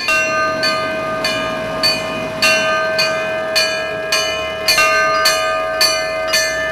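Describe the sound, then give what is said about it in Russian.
Church bells on a mobile belfry, leading a column of cars in a religious procession around Krasnodar, capital of Kuban, ring out in a quick, fairly steady series of about a dozen bright, resonant strikes, their tones overlapping and hanging on over a continuous rushing, rumbling background noise. “Колонной, во главе которой шла передвижная звонница, автомобили должны были объехать столицу Кубани.”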